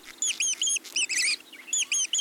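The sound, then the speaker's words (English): A large bird of prey calls in shrill, high-pitched bursts, each a quick run of three or four sharp notes, repeated several times with brief gaps, clear with no talking. “It takes a long time to raise a baby hawk or owl to the size at which it can fend for itself, even though both parents are hunting for and feeding them.”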